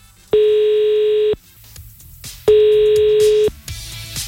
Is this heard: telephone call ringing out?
yes